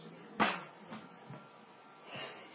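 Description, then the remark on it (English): A single abrupt, explosive sneeze bursts out, followed by a few faint breathy rustles and soft noises; no one talks. “Bless you, bro.”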